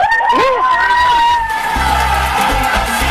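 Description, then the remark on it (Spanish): A group of voices gathered around a barbecue shouts a loud cheer together, the pitched yelling rising and holding steady for a few seconds over a rumbling crowd-like background. “Y aprovechen, ahora quiero escucharlo a ustedes, pues si están todos ahí reunidos, a ver, el grito, el grito, el grito, el grito.”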